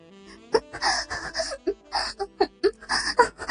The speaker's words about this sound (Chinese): 房间里充满着女孩的喘息和呻吟。